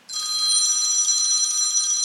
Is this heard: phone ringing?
yes